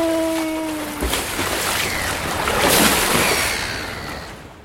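A boat sets off across harbour water: a brief steady engine drone gives way to a loud, continuous rush of water and spray that swells midway, with no voices.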